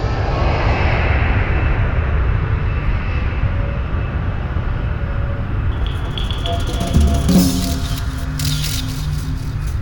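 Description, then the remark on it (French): A loud, steady roar of an airplane engine at full power as the plane flies at its maximum speed in smooth air on a zero-gravity flight, constant throughout, with faint clicks and brief rattles appearing toward the end. “On est à la vitesse maximale de l'avion parce qu'on a intérêt à avoir l'énergie maximale au départ.”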